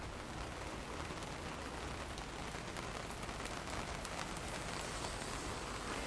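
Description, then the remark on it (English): A steady, dense hiss of rain pours down without pause in Miami, Florida, on the day before the Fourth of July, as the rain starts to fall harder, with scattered sharper drop ticks on top. No voices, just the continuous wash of a downpour. “Well, it's starting to rain harder.”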